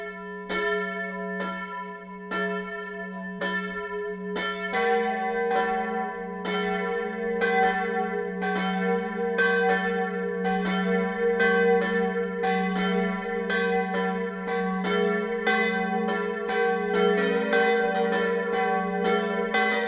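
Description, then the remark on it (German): Church bells of the Catholic parish church in Lindkirchen, Lower Bavaria, Germany, ring steadily for noon, several bells overlapping in a continuous pealing pattern with sustained humming tones, full, no voices. “Das Mittagsläuten kommt heute von der katholischen Pfarrkirche Marie Lichtmess im niederbayerischen Lindkirchen.”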